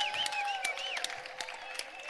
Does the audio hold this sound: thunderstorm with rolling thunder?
no